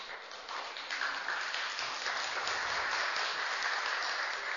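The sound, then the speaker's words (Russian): Steady applause from an audience at a lecture on the search for black holes, a dense wash of many hands clapping that holds at an even loudness for several seconds without any talk over it. “А почему аплодисменты?”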